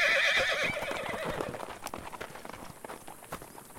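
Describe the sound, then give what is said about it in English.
One of two loose horses beside open stable doors lets out a loud, wavering whinny, followed by a scatter of hoof clip-clops that fade as the horses trot away. “Well, those two horses stuck around, so maybe it's okay.”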